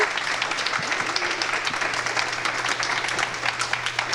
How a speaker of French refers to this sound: Je vais vous applaudir.